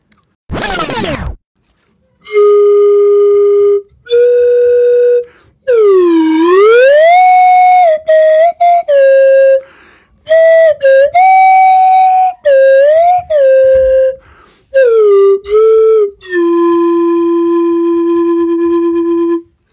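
A slide whistle plays alone, loud and close, running through a jaunty sequence of held notes and swooping upward and downward glides, with brief pauses between phrases and a quick opening swoop.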